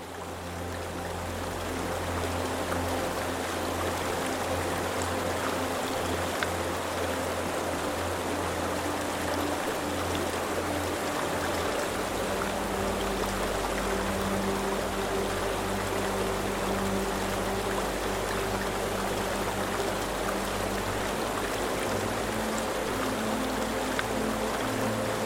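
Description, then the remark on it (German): A boat moves steadily along a river in Prague, past the Charles Bridge toward Prague Castle, its low engine drone humming beneath a constant wash of rushing water, unbroken for the whole stretch with no voices. “Das Boot gleitet indessen weiter in Richtung der Prager Burg, die hoch oben auf einem Hügel thront.”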